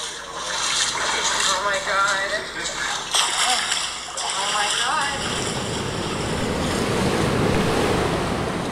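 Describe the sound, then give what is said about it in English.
Loud, steady roar of water churning and rushing through the stilling basin of Attucks Dam, a water control structure emptying into tributaries of Buffalo Bayou, with wind buffeting the microphone; a voice speaks over the first half before the turbulent rush continues alone. “This is where the water passes through our water control structure and is emptied into the tributaries of Buffalo Bayou downstream.”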